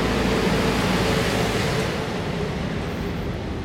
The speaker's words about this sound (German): Wir müssen jetzt einmal kurz an der Seite gehen, weil die Müllabfuhr kommt. Genau. Und wir warten noch einen Augenblick, weil es ja einfach zu laut ist.